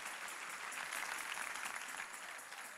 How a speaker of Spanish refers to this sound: Si ese es el aplauso, dáselo más fuerte al Señor.